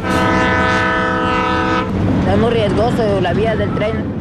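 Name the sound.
train passing with horn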